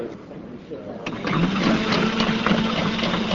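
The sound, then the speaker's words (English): A combination sauté pan dishwasher, filled with water and detergent to clean itself, switches on about a second in, settling into a steady mechanical whir with a low motor hum and busy churning noise that continues to the end. “Okay, so maybe the combination saute pan dishwasher isn't up your alley”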